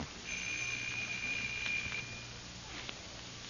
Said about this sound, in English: No answer. Why don't you try the bell?